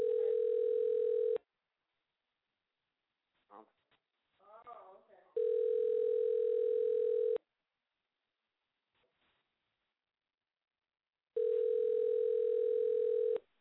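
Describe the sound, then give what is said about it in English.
A telephone ringback tone repeats three times, each steady two-second buzz separated by long pauses, as an outgoing call made on air on Soda Pop Radio goes unanswered. Brief mumbled talk is heard in one gap. “Nobody is answering their phone tonight for me.”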